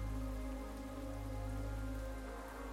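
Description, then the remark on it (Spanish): Steady, heavy yet fine rain patters on a hard surface, a dense, continuous hiss of drops with a low hum underneath, constant with no voices. “Quiero que aprovechemos este sonido para hacer un ejercicio de visualización. Siempre he pensado que la lluvia es un regalo necesario”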